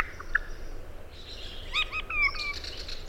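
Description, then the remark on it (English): A short, simple song from a regent honeyeater: a few clear whistled and chirped notes over a soft background hiss, with no one talking. “What they found when they compared these two groups of songs is that the songs of the modern birds, they're much less complex, they're shorter, and they have fewer syllables.”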